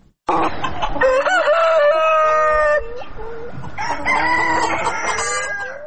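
A rooster crows loudly in two long, strained calls, with hens clucking and fussing around it, on a poultry farm in Estonia. No voices present.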